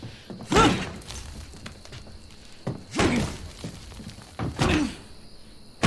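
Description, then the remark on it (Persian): Three heavy, booming thuds of a thick ironwood door slamming, spaced about two seconds apart, each a loud low impact with a short rattling decay and no voices. “جنس این در از چوب آهنه، سه تا مرد همجسته تو هم نمیتونن بشکننش”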